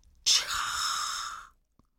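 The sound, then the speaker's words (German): A pink river dolphin (boto) turns and gasps a single breath: a sudden, loud whoosh of air that holds steady for just over a second, then cuts off into silence. “Er wendet sich dir zu, schaut dich an und keucht.”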